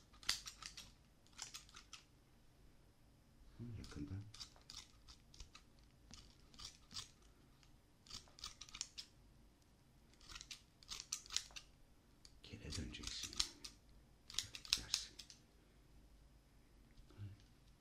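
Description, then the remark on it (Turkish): Scissors snip in quick clusters of crisp metallic clicks, pausing between bursts, with a couple of brief low voice sounds in between. “Makas güzel değil mi?”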